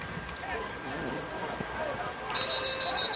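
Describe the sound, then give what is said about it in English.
Steady background murmur and crowd noise at a football game between the Bucks and the Apaches, then near the end a high, shrill referee's whistle cuts in, calling a false start, sounding as a sustained trilling blast broken into short pulses. “And we get a whistle.”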